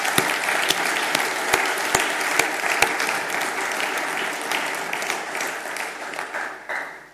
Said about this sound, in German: Und nicht einfach nur Danke, sondern einfach auch mal Erwähnung und Wertschätzung und ich glaube auch mal einen ganz großen Applaus für jeden Einzelnen, der sich hier engagiert. Das ist jetzt mal ganz wichtig.